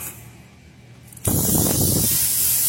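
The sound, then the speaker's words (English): A quiet stretch gives way to a sudden, loud, steady hiss of air leaking from a punctured tire taken off a truck for plugging, a broad, bright rush that holds constant without letup to the end. “Leaking, obviously.”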